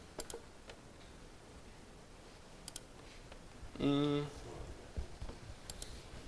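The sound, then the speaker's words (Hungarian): Several soft, sharp clicks of keys being pressed to advance presentation slides during a talk, spaced a few seconds apart, with a brief voiced murmur near the middle. “Most elkattintottam.”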